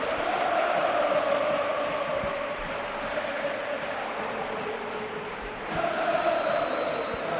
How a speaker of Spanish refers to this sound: Mira qué bonito esto, perdóname. Sí. Le canta el Metropolitano a Radamel Falcao.